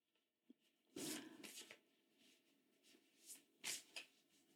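Tarot cards being shuffled in quick papery bursts, a riffle near the start and several shorter flicks and slides after, ending with a tarot card being drawn; no one speaks.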